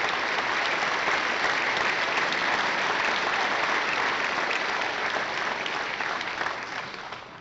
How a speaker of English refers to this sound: We are thrilled to have Matt home. Matt is here. I'm going to ask Matt to stand. Let's give Matt a great round of applause for returning home to Louisiana.